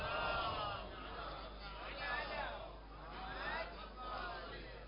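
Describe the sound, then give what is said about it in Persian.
A large crowd recites salawat in unison, dedicated to Imam Reza, in rising and falling waves of many overlapping voices, sustained and steady at moderate loudness throughout. “به حدی که صلواتی به حضرت رضا تقدیم کنید.”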